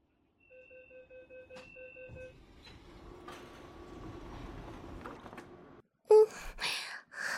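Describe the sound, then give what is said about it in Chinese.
A tram comes into the station: a series of short electronic chime beeps, then a steady rumbling hum, a brief hush, and loud hissing bursts as the doors slide open. “电车已到站，请各位乘客有序下车，欢迎您下次乘坐，再见。”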